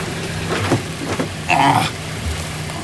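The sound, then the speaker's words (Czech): Tree branches scrape along a car's bodywork in a short, squealing rasp, preceded by a few lighter scratches, as the car drives off-road, all over a steady background rumble of the moving vehicle. “Větve, no tomu se nevyhnu, ty nám teďkom zaškrábou do karoserie.”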